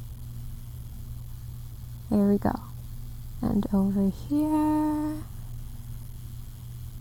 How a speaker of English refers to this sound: I'm just going to shave down the sides, and then I'll trim down the top. No, I'm not going to completely buzz you.